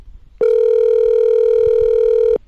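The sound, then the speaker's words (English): A phone line rings once as an interview phone call goes through: a single steady electronic ring tone lasting about two seconds, loud and clear, with no voices. “This was easily one of the most inspiring phone calls I've ever made.”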